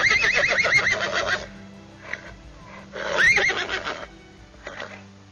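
A horse neighs loudly, a long quavering whinny followed by a second shorter whinny and a faint snort, with no one speaking.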